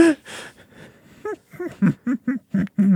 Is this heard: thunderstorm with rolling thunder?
no